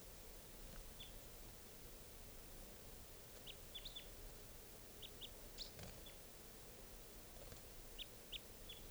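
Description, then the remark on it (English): A second bird, which has just come closer to the decoys and to cage 624, gives short, high chirps in scattered bursts, some in quick pairs, over a steady background hiss. No one speaks. “That's the other bird who just came closer.”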